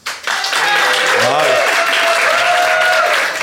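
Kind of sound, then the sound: crowd, theatre audience applause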